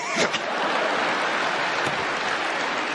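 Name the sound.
audience applause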